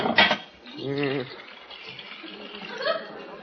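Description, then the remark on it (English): Dyes are poured steadily into a pot of boiling water to be mixed for coloring hair, giving a continuous hissing, bubbling wash of noise, with a brief voiced murmur or chuckle partway through. “Now, I pour the dyes into this boiling water.”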